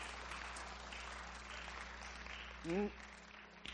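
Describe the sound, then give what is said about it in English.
Steady, crackling applause from an audience fills the whole stretch as people are invited up to the stage, with a brief voiced whoop rising above it near the end. “Let's give them a round of applause as they come for Abraham and Sarah.”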